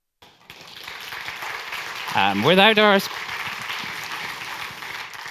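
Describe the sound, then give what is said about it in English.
A conference audience applauds the event's sponsors in a steady, dense wash of clapping that runs for several seconds, with a brief spoken voice rising over it partway through. “Without our sponsors, we can't actually organize a conference, so that is a well-deserved applause.”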